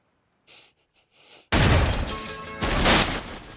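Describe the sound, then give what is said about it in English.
A few soft breathy gasps, then a sudden loud gunshot blast as a window is shot out, with crashing, shattering glass that keeps clattering and a second loud burst of breaking glass near the end. “And opens fire. A window is shot out.”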